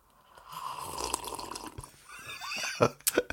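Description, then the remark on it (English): A long, airy slurp of hot tea drawn from an ordinary mug, picked up by a professional microphone, hissing and bubbling for over a second, followed by a few wet gulps and lip smacks. “So the slurp of my tea might coincide with the...”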